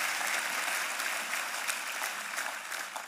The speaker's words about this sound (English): Let's give our two couples a round of applause.